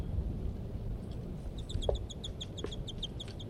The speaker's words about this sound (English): And these are those two birds, and while the male calls from the nearby treetops.